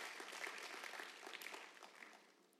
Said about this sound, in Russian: Да, давайте Богу воздадим аплодисменты.